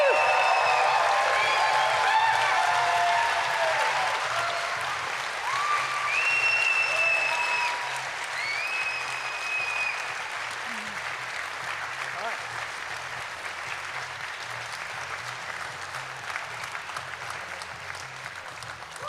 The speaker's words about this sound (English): Can we just give one massive last round of applause for all of our speakers that you've seen this evening?